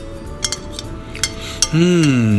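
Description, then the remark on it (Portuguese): A utensil stirring seasoned food in a bowl (chopped zucchini with capers, crushed garlic, a drizzle of olive oil and salt), giving a few sharp clinks and soft scrapes at an uneven pace. Near the end a steady, wavering low hum comes in. “Deixa eu mexer isso tudo aqui.”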